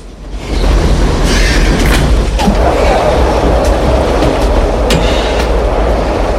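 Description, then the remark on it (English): A loud, sustained rumbling roar rises quickly and holds steady as an oncoming train thunders past, with heavy low-end rumble and scattered metallic clatter throughout. “Art pulls himself back up out of the way of an oncoming train.”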